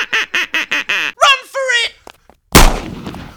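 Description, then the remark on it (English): A duck quacks six times in a quick, steady rhythm, then gives a few longer, squawking calls before a single loud gunshot blasts and echoes away. “If they don't tell their mates, the duck gets it.”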